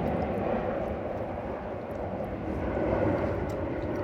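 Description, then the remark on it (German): A low, steady roar of an airplane passing overhead near Cologne Bonn Airport, Germany, broad and rumbling, holding constant loudness for several seconds with no voices. “Heute sind die aber auch unterwegs, Mensch.”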